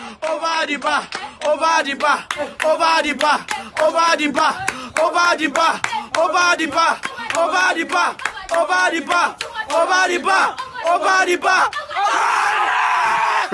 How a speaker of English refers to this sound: he sent a link of a family watching Gylfi Sigurdsson's penalty. Here is this family shouting over the bar. It's fantastic.